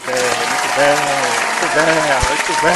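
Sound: applause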